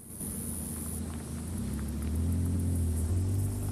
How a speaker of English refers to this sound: Now the car slowly moves through the baking desert scrubland towards an isolated trailer home.